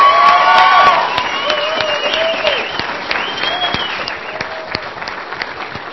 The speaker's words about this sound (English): Appreciate all of you. Happy holidays. Give them a hand, guys. Give them a hand.